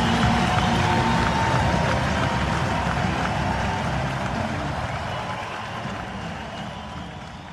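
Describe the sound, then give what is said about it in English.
Sustained crowd applause, called for by Steve Kerr in tribute to the late Craig Sager, a dense wash of clapping with some cheering mixed in, steady and loud at first and then slowly tapering off. “So I'd like all of you to join me in an applause for a great man and a life well lived.”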